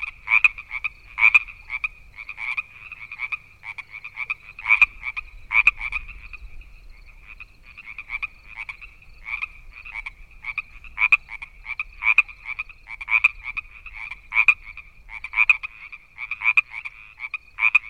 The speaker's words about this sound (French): La grenouille. On retrouve tout dans le chant de la grenouille, surtout lorsqu'elles sont nombreuses. De l'hétérophonie, de l'antiphonie, du chant responsorial. Et puis, il y a la matière, la texture variée en fonction des grenouilles.